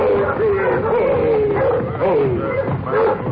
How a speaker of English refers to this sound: But the village dogs raised the alarm